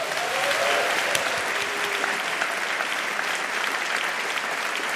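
Steady audience applause for comedian Renato Kaiser fills the whole stretch, a dense, even wash of many hands clapping at a constant loud level with no voices rising above it.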